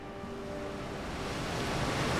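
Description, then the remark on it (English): A foaming ocean wave carrying Stickman rushes toward the shore as a broad, hissing wash of water that swells steadily louder over a couple of seconds, with no voices. “A foaming wave carries Stickman towards the shore.”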